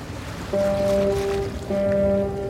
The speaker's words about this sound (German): Ein kalter Februartag in Istanbul. Metallisch grün das Wasser im Bosporus. Kurze Wellen züngeln an den Molen diesseits und jenseits der Meerenge entlang.